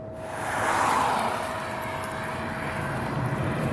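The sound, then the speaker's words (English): Steady rushing road and wind noise from an electric Nissan Leaf test car travelling quite fast along a long sweeping road in rural Britain, with a thin constant electric whine running underneath and a brief swell near the start. “The car is an electric Nissan Leaf.”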